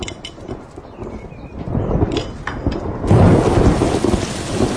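Heavy rain pours down steadily in a dense, hissing wash, joined by low rumbles of thunder, with the downpour surging louder about two-thirds of the way through. No one speaks.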